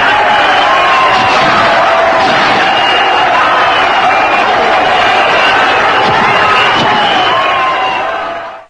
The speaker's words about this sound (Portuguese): Então, como ele era aplaudidíssimo, foi aplaudidíssimo, porque era o anseio de todo mundo, né? Era exatamente o que todo mundo queria.